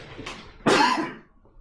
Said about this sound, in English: Excuse me, I need to cough.